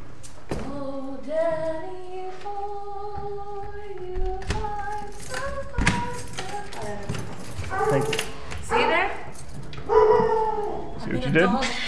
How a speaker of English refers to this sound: Howl. See what you did?